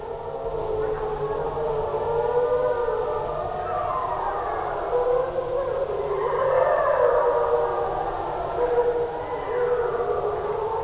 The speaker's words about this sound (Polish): To było takie typowe dla wilków, harmoniczne wycie odstraszające. To pierwszy raz, kiedy one odpowiedziały na moje wycie. To było w Puszczy Białowieskiej w latach 90., kiedy nauczyłam się wyć dzięki lekcjom Freda Harringtona i one odpowiedziały.